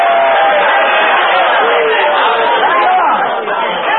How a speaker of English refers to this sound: The screams, the shouts, the hallelujahs.